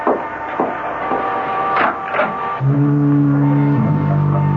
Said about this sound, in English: The weather's changing. I can scarcely see the beam of the lighthouse. It's getting all misty. And don't be frightened if you hear the foghorn.